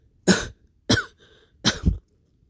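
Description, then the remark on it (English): A man coughs three times to clear his throat, each a short harsh burst with brief pauses between, the last one a rough double cough. No talking. “coughed a couple of times to get his throat cleared, his head starting to work right again.”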